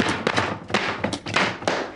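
A rapid series of dull, muffled thumps and slaps, about six blows in two seconds, as a fist repeatedly punches a painting smeared with wet green food, with no voices.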